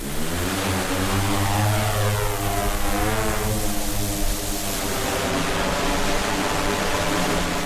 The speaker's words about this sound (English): I couldn't see any archaeologists digging, but I could hear another noise in the distance. And when I looked up, it was neither a bird nor a plane, but a drone being flown over the abbey